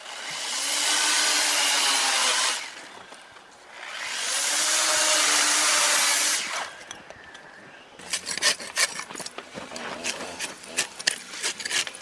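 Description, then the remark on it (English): Two long, loud bursts of a whining power tool grinding into an ice block at an ice park, as carvers prepare works for the World Ice Art Championships, each lasting a couple of seconds, followed by rapid, uneven scraping and chipping sounds. No one speaks. “Ice artists use everything from massive chainsaws to grinders and tiny chisels to turn simple ice blocks into dazzling forms.”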